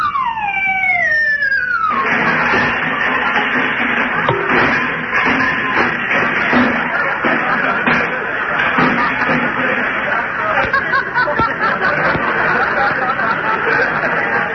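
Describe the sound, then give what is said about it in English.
Santa Claus's shuffling, irregular footsteps clomp across a roof as he gets ready to come down the chimney, amid a loud, dense rumbling clatter, following a brief opening of falling whistle-like tones. No one speaks. “Yeah, and I can hear him walking around on the roof.”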